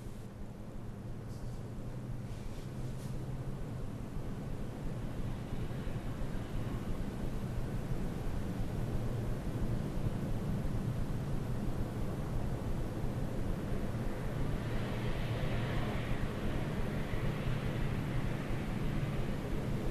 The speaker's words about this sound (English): it's a recording of a train I did in my hometown in Linz, and there we have the Westbahn, and I used to live very near to it, and so I recorded it. And we will listen to the beautiful Westbahn.